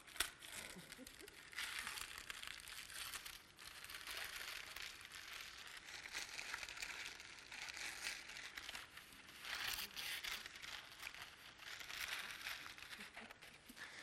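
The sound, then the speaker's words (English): Gold paper is crumpled and handled, a steady crinkling rustle with bursts of sharper crackling that continues for the whole stretch with no voices. “The gold paper reminds us of how valuable the Bible is and what a treasure it is because it guides us in truth and tells us about who God is.”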